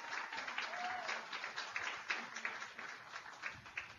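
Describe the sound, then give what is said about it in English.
A crowd at a radio show breaks into a sustained round of applause for a restaurant owner, dense overlapping claps forming a steady, crackling wash of noise that swells slightly in bursts for several seconds, with no voices standing out. “He's the one that deserves a round of applause with his gorgeous restaurant.”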